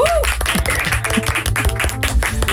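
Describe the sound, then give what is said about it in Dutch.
Steady warm applause from a crowd for Suze van Kleef, dense rapid clapping that holds at a fairly loud level throughout, with faint tonal sounds underneath. “Nou, misschien mag ik een warm applaus voor Suze van Kleef.”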